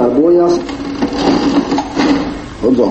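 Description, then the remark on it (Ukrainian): An old mechanical cash register in a shop selling colonial goods such as coffee, tea and spices clatters and clunks through a few seconds of operation, its keys and levers rattling while a person speaks. “Усе це можна купити, старовинний касовий апарат справно працює, прошу.”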